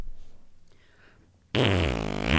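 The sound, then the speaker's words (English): After a brief quiet pause, a person blows a loud, buzzy raspberry with their mouth, imitating a fart in one sustained, sputtering burst lasting about a second. “Wait, let me do a good one because I'm so good at fart sounds.”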